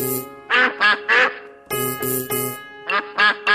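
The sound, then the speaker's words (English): A duck quacks loudly, nine harsh nasal quacks in three quick bursts of three, with brief pauses between the groups and no talking. “A bee and a duck were the very best of friends.”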